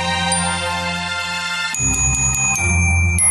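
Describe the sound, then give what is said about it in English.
Loud jingle bells ring out, starting as a steady, shimmering tone and then turning into a rhythmic, repeated shaking jingle partway through, with no talking. “Oh, those are very loud jingle bells.”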